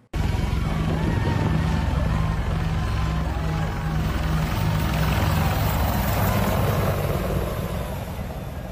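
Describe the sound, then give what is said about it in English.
Military Apache helicopters pass low, flying too close to a crowd, a loud, continuous rotor thrum and engine roar filling the whole scene, with faint crowd murmur mixed underneath. “But these Apache helicopters decided to do something a little bit risky and fly way too close to the crowd.”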